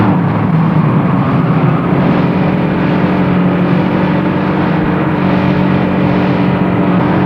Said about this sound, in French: Ce n'est pas marrant de faire des kilomètres dans une voiture qui n'est plus très jeune.